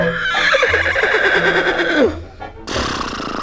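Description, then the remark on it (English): A loud horse whinny, the laugh of Henry the Horse: a long, quavering neigh that trembles and slides downward for about two seconds, then a short pause and a burst of rough, noisy sound. “Well now, if you're looking for a laugh, I have one that'll suit you fine.”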